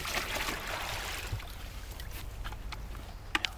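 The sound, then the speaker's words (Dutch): A dog moves through water, with continuous sloshing and splashing and a few sharper splashes toward the end. No voices. “Ze raaf, geraakt in dat water. Heel graag in het water, hè.”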